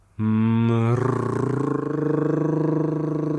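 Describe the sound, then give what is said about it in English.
As a vocal exercise, a voice hums a steady, low-pitched tone that turns into a rolling tongue trill, the buzzing flutter holding at a fairly even pitch with only slight drifts. No words are spoken. “And again, connecting a hum and starting to move up and down. We can turn that hum into a tongue trill.”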